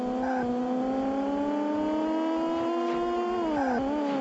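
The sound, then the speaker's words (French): A synthetic racing-game car engine drones steadily at a high, buzzing pitch, holding nearly constant before dipping briefly near the end as if shifting gear, with no voices. “Regardez le décor, sa vitesse de défilement, écoutez le bruit du moteur.”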